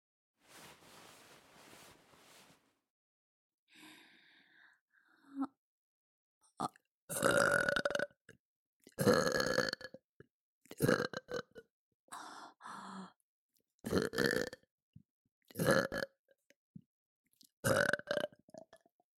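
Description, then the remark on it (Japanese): A string of six or seven long, loud, croaking burps from a woman comes in close succession, each voiced and drawn out, preceded by soft breathy noise and a few quieter gulping sounds. “ほら、お姉ちゃんのゲップ、嗅いでちょうだい。”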